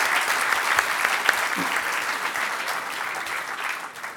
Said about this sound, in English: Could I get a round of applause, please, for the Harvard Five?